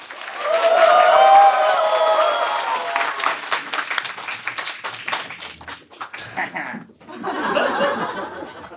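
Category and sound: crowd, audience applause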